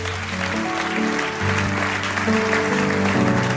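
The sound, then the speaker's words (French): An audience applauds steadily for a few seconds, a dense, even wash of clapping with a low droning hum running underneath and no voices. “Vous pouvez applaudir si vous l'applaudissez.”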